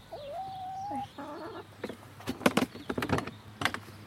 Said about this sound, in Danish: Så, nu skal vi se, om hønsene har lagt nogle æg til os. Vi kan høre, at hønsene snakker til os.